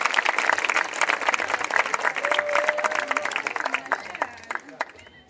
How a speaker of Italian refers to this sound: E anche per loro vi chiedo un calorosissimo e un affettuosissimo applauso.